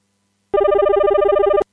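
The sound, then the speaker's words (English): A telephone rings loudly in one continuous burst of rapid electronic trilling, about a second long, then cuts off abruptly; no voices are present. “Ah, there goes the phone.”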